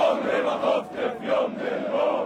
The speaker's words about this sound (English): Let me hear the loud shouts. They sing.